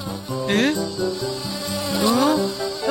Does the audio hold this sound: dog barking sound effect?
no